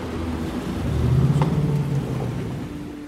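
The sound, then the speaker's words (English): A steady low rumble of idling car engines, with a faint rising drone near the middle and soft road noise throughout, from a long line of cars packed with kids, animals and suitcases, queued on the highway going west from Vinnytsia toward Lviv at 4:50 p.m. on a Wednesday. No one speaks. “And we're in a line of cars as far as the eye can see on the highway going west toward Lvov from Vinnytsia.”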